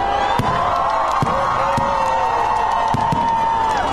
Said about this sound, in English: Fireworks are lighting up the skies above one of the area's biggest cities, Simferopol, as well as in Moscow.